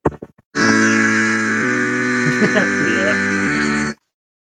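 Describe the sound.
A voice imitates a microwave running with autotune: a few quick clicks, then a loud, steady buzzing drone with a flat, locked pitch lasting over three seconds, with slight warbles before it stops.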